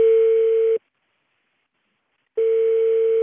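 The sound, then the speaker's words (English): A telephone ringback tone as a producer in an NPR studio in Washington calls a cell phone in a remote mountain town in Honduras with sketchy cell service: a steady electronic buzz-tone sounds twice, each burst under a second long, separated by about a second and a half of silence. It is clear, with no voices. “In an NPR studio in Washington, our producer reaches a cell phone in a remote mountain town in Honduras with sketchy cell service.”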